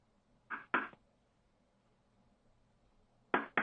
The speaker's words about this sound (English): Please, we're knocking nicely. No, I'm not letting you out. I don't care how much you ask nicely.